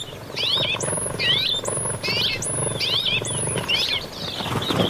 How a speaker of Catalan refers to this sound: En aquest capítol heu escoltat el cant d'aquests ocells. Pardal roquer, Petronia petronia. Ocell resident als camps oberts i zones de conreu.